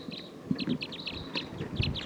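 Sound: wild bird flock calling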